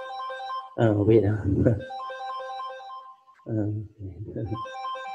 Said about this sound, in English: Sorry. I have to mute my phone. Sorry. Somebody tried to call.